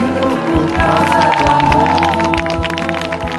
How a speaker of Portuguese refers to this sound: E até hoje mexe com a emoção de cariocas e turistas. Um dos poucos lugares do mundo onde o pôr do sol é aplaudido diariamente.